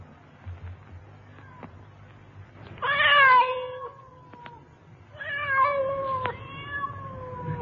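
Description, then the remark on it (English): A cat on a roof lets out two long, drawn-out wailing meows, one after the other with a short pause between, over a low background rumble. “Man can't have a few quiet drinks in peace in his own feeding room without flipping cats on the roof.”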